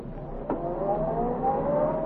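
A man gets into a car, and its engine catches after a brief thump and then revs steadily higher as the car pulls away, its rising hum continuing for a couple of seconds with no voices.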